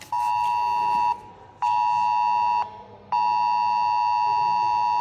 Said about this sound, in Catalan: És l'alerta que Protecció Civil va enviar a tots els mòbils de Sant Feliu aquest dilluns, pocs minuts després de les 11 del matí, per la previsió de pluges torrencials i que a tothom li va fer posar l'ai al cor.